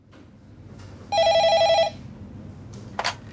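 A single burst of telephone ringing, a rapid warbling electronic trill lasting under a second, followed by a quiet pause and a sharp click like a handset being picked up.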